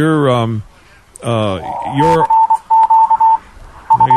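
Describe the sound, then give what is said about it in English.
A steady single-pitched Morse code tone from a radio station in the background keys out a CQ call in crisp on-off dots and dashes, loud and clear, after a man speaks; his voice briefly returns over the final beeps. “It's a Morse code station we have back here in the background. Yeah, we're hearing that CQ come in real loud and clear here.”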